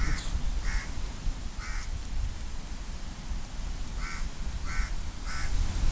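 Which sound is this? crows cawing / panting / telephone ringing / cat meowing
crows cawing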